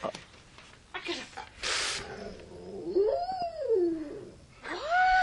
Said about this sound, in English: There it is, ladies and gentlemen. The howl!